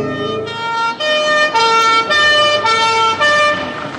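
A loud two-tone emergency vehicle siren, the European high-low kind, alternates between its pitches roughly every half second. It sounds close and clear, with no talking.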